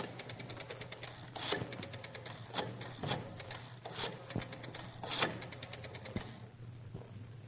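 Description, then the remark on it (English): A telephone number being dialed on a rotary phone to call Mr. Howard: several runs of rapid, even mechanical clicks separated by brief pauses, with a steady low hum underneath and no voices. “you better get Howard on the phone right now. York 1248.”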